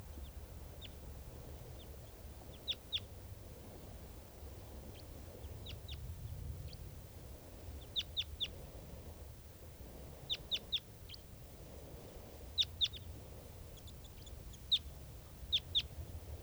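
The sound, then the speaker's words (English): Wild birds, one of them apparently an adult male, call in short, sharp, high-pitched bursts, usually in quick clusters of two to four, repeating every few seconds over a steady low rumble of background noise. No one speaks. “This is one of the birds that's calling here.”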